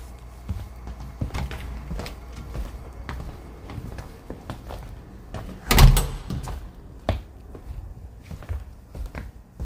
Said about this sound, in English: And sorry about the door.